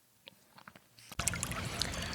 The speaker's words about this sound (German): Ja, und da hören wir gerade im Hintergrund den Heisterbach. Das ist ja der Heisterbach, das ist ein kleiner Bach hier im Siebengebirge. Das ist ein Kraftort und ja, den habe ich mal aufgenommen für eine Meditationsfolge